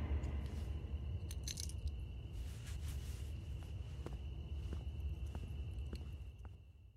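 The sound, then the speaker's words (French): Soft, irregular footsteps with a faint crunch, scattered over a steady low rumble, fairly quiet, with no voices. “Sous petit bruit de pas, tout ça.”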